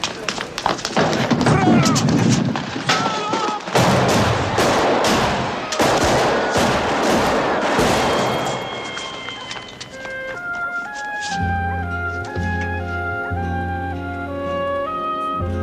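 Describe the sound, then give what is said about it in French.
Loud gunshots from the street shooting of Don Corleone by two armed men in The Godfather crack out in an irregular volley of sharp bangs over a noisy, chaotic backdrop for about ten seconds, then give way to sustained, low musical tones. “Les tireurs s'enfuient.”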